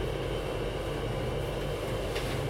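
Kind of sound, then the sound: vehicle, train passing on rails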